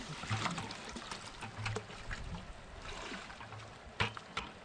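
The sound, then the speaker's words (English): Water sloshes and pours steadily as a bucket of young salmon is emptied into Pleasant River at a stocking point, with a few sharper splashes standing out against the continuous running-water noise. No one speaks. “I'm just going to set it down in the water and just carefully let them.”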